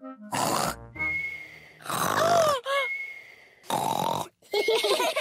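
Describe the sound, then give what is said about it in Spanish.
A voice imitates an uncle's loud, pig-like snoring as he sleeps, in several bursts: harsh, grunting snorts with wheezy whistles, each burst separated by brief pauses, forceful. “Papá dice que siempre te duermes y roncas muy fuerte. ¡Así!”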